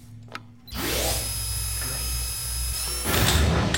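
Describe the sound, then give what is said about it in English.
A motorized door closes with a rising mechanical whine that settles into a steady, loud electric hum, ending in a clattering rumble near the end; no one speaks. “Close the door.”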